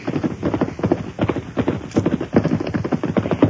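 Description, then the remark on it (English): Hoofbeats of a horse and rider headed this way, a steady, rapid clip-clop of many hoof strikes in a rolling rhythm, fairly loud and continuous throughout with no voices. “Somebody's headed this way. We'll stay out of sight.”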